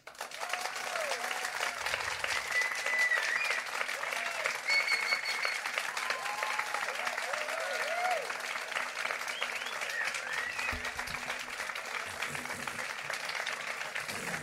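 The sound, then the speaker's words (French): An audience in Langogne applauds steadily and loudly for the applause meter judging a performing duo, a dense wash of clapping that fills the whole stretch without pause, with a few faint shouts and cheers rising now and then. “Pour juger cette histoire, place à l'applaudimètre.”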